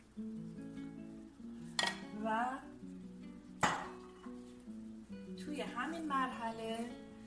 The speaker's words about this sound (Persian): خب توی این مرحله که گوشتمون هم پخته، نوبت اضافه کردن سبزی سرخ شدهمون میرسه. سبزیمون رو به قابلممون اضافه میکنیم.